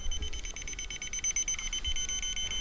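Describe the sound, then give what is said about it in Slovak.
A shrill electronic beeping runs without pause, a rapid pulsing high tone from a bug detector switched on and set to its highest sensitivity, fairly steady, with a low background rumble and no voices. “Zapnem detektor, nastavím si na najvyššiu citlivosť, kedy nie zachytí on televízne a rozhlasové vysielanie, prejaví sa to pípaním.”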